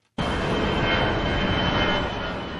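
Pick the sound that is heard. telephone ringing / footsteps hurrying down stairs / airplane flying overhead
airplane flying overhead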